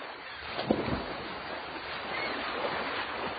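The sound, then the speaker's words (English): Water laps and washes steadily against the hull of an anchored sailboat on a beautiful sailing day, with a soft splash early on and a constant breezy hiss. No one speaks. “Great day for sailing. It sure is. The water looks so nice. Anchor the boat for a little while.”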